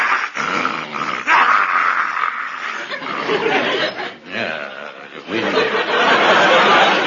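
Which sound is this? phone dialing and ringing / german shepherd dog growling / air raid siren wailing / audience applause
german shepherd dog growling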